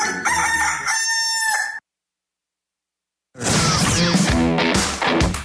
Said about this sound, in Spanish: se escucha el gallo de Radioactiva